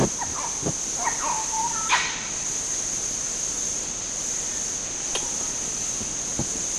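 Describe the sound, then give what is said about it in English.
Red colobus monkeys give a few sharp, scattered chiss and nyaw barks and brief chittering chiss calls, spaced irregularly over a steady high insect-like hiss. “Chiss and yaw barks, same data, 11:37.”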